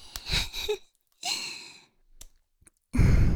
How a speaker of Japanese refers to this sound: 耳元での息遣い、エロい？